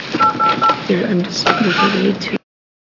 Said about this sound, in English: So I close the public hearing on House Bill 3026 and take a little bit of a pause as we dial the phone.